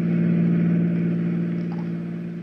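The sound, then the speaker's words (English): A steady, droning engine of a fast-moving car hums at a constant pitch as it drives along on a windy night with a car door open, loud at first, then easing slightly quieter over a few seconds. No voices. “A fast-moving car, a windy night, an open door, and...”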